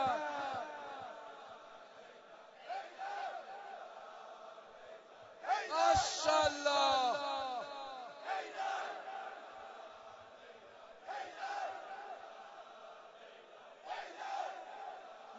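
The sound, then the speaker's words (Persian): A large mixed crowd of men and women shouts together in loud rhythmic bursts, swelling to a dense roar around the middle before settling into repeated group calls. “حیدر حیدر حیدر دست راست صداها صداها صداها فریاد بزن زن و مرد فرج حجت ابن الحسن.”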